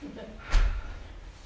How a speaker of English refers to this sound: shut that door for me real good, please. I'm afraid of the boogeyman, and that's a big enough crack for him to get in.